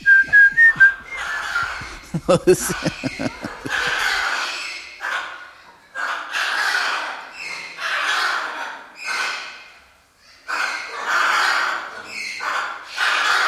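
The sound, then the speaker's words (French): Two parrots whistle and chirp in repeated bright bursts, loud, joining a film's tune whistled by soldiers that starts with lower melodic tones before the parrots' whistling carries on alone in uneven phrases. “Et en arrière, tous les perroquets, les deux, commencent aussi.”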